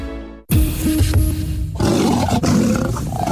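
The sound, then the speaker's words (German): A loud lion roar bursts out after a brief quiet moment, a deep rumbling growl that swells and rasps for a few seconds with no talking. “Löwenstark seit 210 Jahren.”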